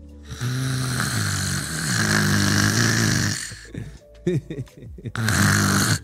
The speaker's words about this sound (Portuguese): Imaginem que a pessoa que está ao vosso lado ronca.